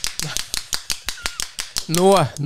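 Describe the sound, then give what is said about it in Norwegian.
A handheld clapper noisemaker rattles out about a dozen sharp, dry clacks in a quick, fairly steady rhythm, and a voice cries out over the last few. “Det er en klapper.”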